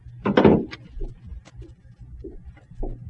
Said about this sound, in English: The door's opening. Yeah, somebody's coming out.